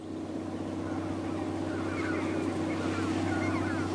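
A blue boat's engine drones steadily on the water as someone flees in it, a constant low hum over rushing water noise, with faint bird calls drifting in toward the end.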